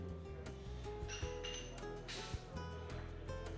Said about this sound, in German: Um dich herum unterhalten sich Menschen. Tassen klappern,